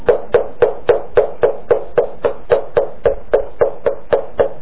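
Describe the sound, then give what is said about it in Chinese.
Steady, persistent knocking on a friend's door by a neighbour who refuses to leave, about sixteen firm raps at an even quick pace with a hollow, woody thud to each, continuing unbroken with no voices. “他的邻居说，你给不给无所谓，我不会离开，我会一直敲门。”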